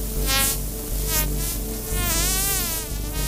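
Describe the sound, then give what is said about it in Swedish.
Harbour porpoise, one of the world's smallest whales, clicking: rapid click trains blur into a continuous buzzing drone whose pitch wavers and sweeps up and down, steady and fairly loud throughout, with no voices. “En av världens minsta valar som suger i sig levande fiskar och pratar med klickljud.”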